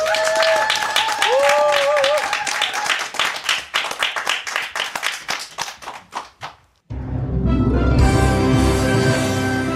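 An audience at a public broadcast of the EBS FM Saturday humanities concert bursts into loud applause for a singer's live stage, thinning into slower, spaced claps and fading out, then band music starts up abruptly.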